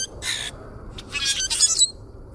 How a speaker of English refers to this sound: The sounds of grackles may not be music to our ears, but they sure do get your attention. And they have their own rough beauty, a distinctive primal harshness. Male grackles sing to attract mates and ward off rivals.